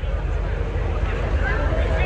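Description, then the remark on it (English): A ski show pickup motorboat passes by, its engine a loud, steady low rumble with a breathy, wind-like hiss over the top for the whole moment. “One of our pickup boats, I bet, huh?”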